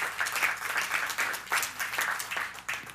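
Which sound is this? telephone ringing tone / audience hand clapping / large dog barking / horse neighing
audience hand clapping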